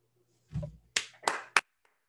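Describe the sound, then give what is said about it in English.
A single person claps a few times: three sharp, bright claps at an uneven pace, following a softer, muffled thump at the start. No voices are heard. “That's me applauding me.”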